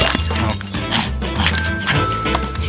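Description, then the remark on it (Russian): Ice is smashed and breaks apart in a busy run of sharp crunching and clinking impacts, fairly loud, over a steady low musical background. “Чем скорее вскроется лед, тем скорее наступит весна. А мы ей в этом поможем.”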